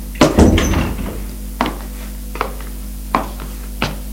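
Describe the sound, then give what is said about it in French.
A door at the end of a corridor filled with stacks of books is opened: a cluster of clicks and a rattling latch at the start, followed by a few sharp, sparse knocks and taps spaced about a second apart, over a low steady hum. “Là, au fond du couloir, elle ouvre une porte.”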